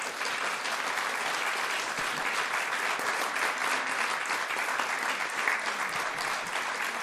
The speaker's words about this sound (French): On vous applaudit beaucoup et on vous retrouve sur vos stands.